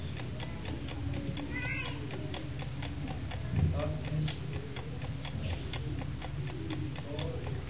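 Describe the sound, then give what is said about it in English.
A clock the speaker has set ticks steadily, its sharp, even clicks repeating several times a second over a low background hum, with a faint brief squeak partway through. “You see, as I set that clock,”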